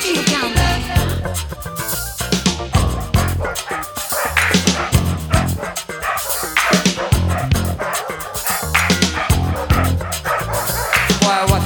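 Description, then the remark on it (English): A dog barks over and over in quick, loud bursts, with yips and whimpering mixed in, all set against a dense, continuous backdrop of sound. “Your dog out here, better take that dog and take it elsewhere.”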